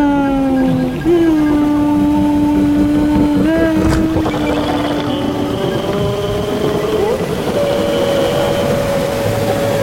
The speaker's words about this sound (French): Dans le métro, j'attends. Et en fait, j'aime bien avec mes pieds faire le rythme. Là, on entend l'escalator, là. Et j'aime bien faire avec, enfin, les pieds, le rythme, quoi. Ouais, il y a le métro qui arrive